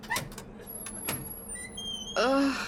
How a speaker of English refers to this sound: She pulled herself up and hesitantly opened the door.